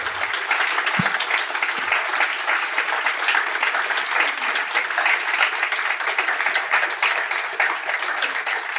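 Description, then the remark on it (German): Steady audience applause, many hands clapping in a dense, even patter that holds at a constant loudness for several seconds, with no voices standing out. “Ich glaube, es ist vielleicht ein kleiner Applaus hier von können alle.”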